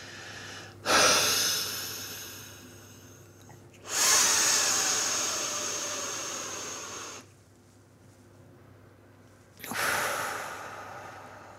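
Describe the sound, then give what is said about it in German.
Breathy sounds as a Spiromax powder inhaler for asthma is opened in a bathroom: a short sharp burst, then a long steady exhale, a pause, and a deep inhalation drawing the powder into the lungs, with no talking. “Man atmet es dann also ganz tief ein, drückt dann praktisch dieses Pulver in die Lunge, hält einen Moment den Atem an und atmet dann still wieder aus.”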